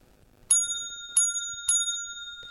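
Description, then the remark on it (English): A bicycle bell sound played from a phone app dings three times in quick succession, each bright metallic ring hanging briefly before the next, clear with no talking over it. “Oh, ring the bell.”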